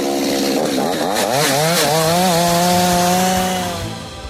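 A chainsaw engine roars up close, revving up and down in pitch before settling into a steady high whine, then easing off slightly at the end. No voices are heard.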